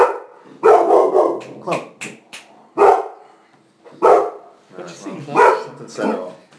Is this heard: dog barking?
yes